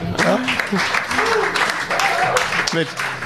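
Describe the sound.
A burst of applause from a small group for an assistant, dense and lasting a few seconds, with people talking and calling out over the clapping throughout.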